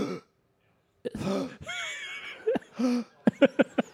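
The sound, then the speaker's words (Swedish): A voice imitates the shallow, labored breathing of a dying person, who takes only small short breaths with the upper chest: a few strained, throaty vocal gasps, then a quick run of short, sharp inhalations in a steady rhythm, each breath brief and clipped. “Den döende drar endast små korta andetag och andas bara med övre delen av bröstkorgen. Hur låter det”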